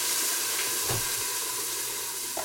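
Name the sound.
onions sizzling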